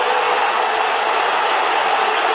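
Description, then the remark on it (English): A football stadium crowd roars after an Inter goal putting them 1-0 up, a loud, dense, unbroken wash of cheering voices that holds steady for a couple of seconds with no single voice standing out. “Goal to Inter, 1-0, hear the crowd.”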